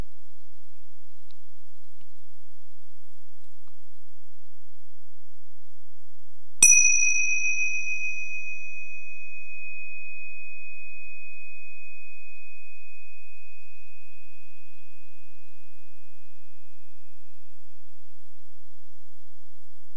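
A gong is struck once after a stretch of silence to close a meditation practice, its bright, high ring sustaining for many seconds and slowly fading away until everything is quiet again.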